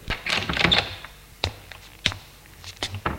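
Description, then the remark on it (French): A bedroom door is opened and someone walks in: a rustle of handling, then a few sharp clicks and knocks of the latch and wood, spaced irregularly, with no talking. “Il ouvre la porte de sa chambre et entre.”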